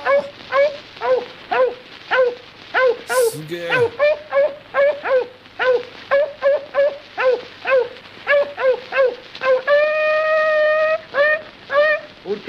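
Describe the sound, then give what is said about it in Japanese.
On an old record from 1929, a man alone gives commands to a dog and answers himself by imitating a dog, barking, yipping and whimpering in rapid rhythmic bursts, with a longer howl-like note near the end; a brief spoken exclamation cuts in early on. “一人で犬に指示を出して自分が犬のモノマネで答えてます。”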